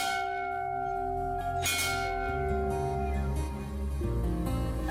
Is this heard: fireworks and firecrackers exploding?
no